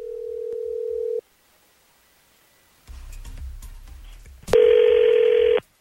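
A telephone ringback tone purrs over the line as the 102.9 The Wolf morning show places a call for its Second Date Update segment: a steady low-pitched buzz, a pause, some low rumbling line noise, then a second, louder and harsher ring burst. No one speaks.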